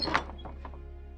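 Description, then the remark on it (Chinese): A girl pushes open the door of an inn on a cold, heavily raining day: a quick latch click and a soft thunk, then a few faint mechanical rattles fading out. Quiet, with no voices. “女孩推开门”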